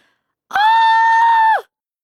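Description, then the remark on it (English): One loud, piercing scream by the character Jimmy in a children's story rings out alone, high and steady for about a second, bursting in abruptly and then sliding downward as it cuts off. “Jimmy screamed a loud and piercing scream, and the blueberries, Caroline and Angus shook in their boots.”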